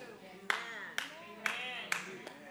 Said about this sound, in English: One person clapped, but I hope everybody was listening.